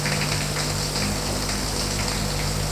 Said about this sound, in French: Elle entre dans la baignoire qui lui paraît minuscule. Fait couler l'eau. Il y a trop de tuyauterie.